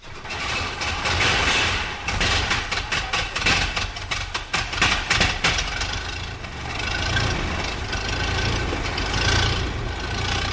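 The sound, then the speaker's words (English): The 60-horsepower 9.2-litre engine of an old Mercedes racing car at a rally runs loud and continuous, with a rough, clattering beat of rapid firing over a deep rumble, briefly rising and settling again. “The 60-horsepower 9.2-litre engine is a formidable machine even today.”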